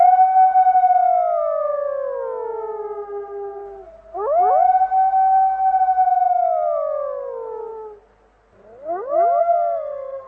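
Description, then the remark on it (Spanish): A dog howls three times in long, loud, wavering cries that rise sharply and then slowly slide downward, with brief pauses between them and no voices present. “El perro con ojos ígneos no volvió a acercarse al minero, pero sentado en la maleza, ladraba y aullaba sin cesar.”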